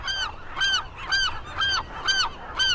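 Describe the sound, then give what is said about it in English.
Loud, harsh calls from a nesting colony of common murres on a rocky 70-acre island repeat in a steady rhythm, about six nasal, honking cries with a faint chorus behind them and no talking. “Once on solid ground, I can see that nearly every foot is claimed by a nesting bird.”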